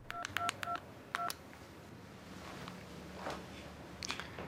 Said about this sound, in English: As soon as he hangs up, he dials a number from his office phone.